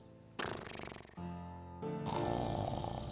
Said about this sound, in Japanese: これでしたたかお腹を膨らませると、狼はまた寝床に潜って長々と寝そべって休みました。やがてものすごい音を立てていびきをかき出しました。